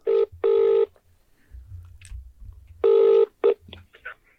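A telephone ringing tone on the line as a call is placed back to someone: two pairs of loud, buzzy ring bursts separated by a pause, with faint low rumbling and murmuring in between.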